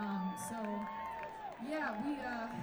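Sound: festival crowd cheering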